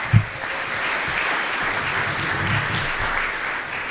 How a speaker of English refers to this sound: With that in mind, let's also thank the Bruce Convention Center for the fantastic job they do each and every year helping us get prepared. Let's give them a big round of applause if we could.